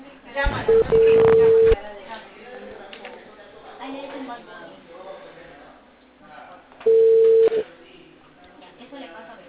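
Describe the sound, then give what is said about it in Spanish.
A phone call to a mobile number rings out over the line: two loud, steady ringing tones about five seconds apart, with muffled voices talking quietly in between. “te pasó el número de celular y es, llámala.”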